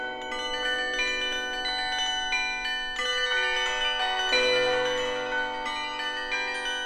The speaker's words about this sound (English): What we're hearing in this composition are two live musicians who are performing on the 60-plus bells of the Berkeley Campanile, combined with a special sampled or virtual set of bells that are electronic, and those bells are being played by seismic